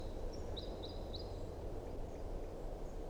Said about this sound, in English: Here comes the second bird. Flight song.